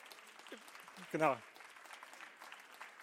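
Steady audience applause, a dense crackle of many hands clapping throughout, with a brief loud vocal whoop rising over it near the middle, at an award ceremony as this year's winner from the publisher Lektora Verlag is called up to receive a trophy.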